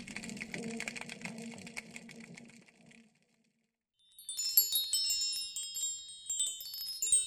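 A fish wind chime hanging from Dr. Gilmore's front door tinkles with bright, high overlapping tones that ring and shimmer for several seconds, following a brief pause after an earlier stretch of buzzing, rumbling noise.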